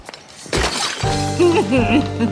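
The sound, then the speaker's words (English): A loud, sharp smash rings out as a man picks up a potted plant and smashes it on the ground, the pot shattering and debris scattering, followed right after by a raised voice with wavering pitch. “He picks up a plant, smashes it on the ground.”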